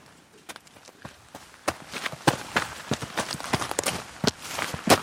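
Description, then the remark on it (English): Wellington boots tramp over wet, squelchy ground as people walk uphill: a steady run of heavy, irregular footsteps, fairly loud, with no one talking over them. “Yeah, you're going to need your wellies. It's wet underfoot. And we're going to walk up there to see some tree planting, I think.”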